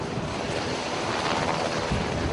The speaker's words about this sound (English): The sound of U.S. Navy helicopters loading up with humanitarian relief supplies for northern Japan.